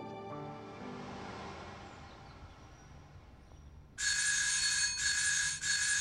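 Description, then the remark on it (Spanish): A doorbell rings loudly in three quick back-to-back bursts with a harsh, buzzing, high-pitched tone, following a few seconds of fading tonal sound. “¿Me piensan quemar el timbre o qué?”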